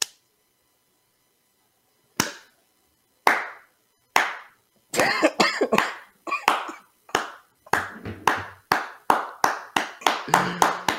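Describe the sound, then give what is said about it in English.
Sharp hand claps start slow and widely spaced, then gradually quicken into a faster, steady clapping rhythm, fairly loud with no talking. “Slow clap them into a speed clap.”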